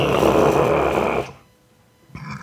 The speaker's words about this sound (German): Das hörst du dann auch, das ist ein Rülpser.